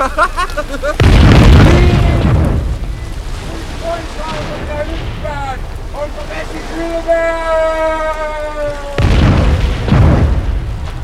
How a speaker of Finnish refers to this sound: Bensiinitynnyreiden räjähdellessä laivan kannella